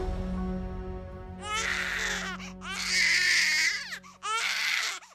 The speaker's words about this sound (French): À quelques pas à peine de là, un enfant pleure dans son berceau.